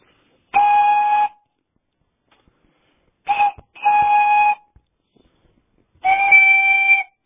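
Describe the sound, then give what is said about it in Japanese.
A toy whistle made from an itadori (Japanese knotweed) stalk, a Hokkaido children's toy called chirette top, gives four reedy, buzzy, high-pitched blasts: one long toot, a short one and a long one close together, then a final long toot, with silence between. “北海道、竹がないので、このイタドリのことをトップという”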